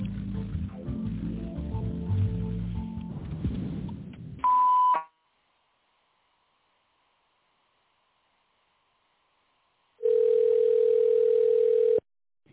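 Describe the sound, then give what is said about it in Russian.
A busy burst of sound gives way to a short, steady electronic beep, then several seconds of silence, then a longer, lower sustained tone: the signal of the Fresenius company phone menu, after which callers dial an extension or wait for the secretary. “Если вы знаете добавочный номер абонента, наберите его после звукового сигнала или дождитесь ответа секретаря.”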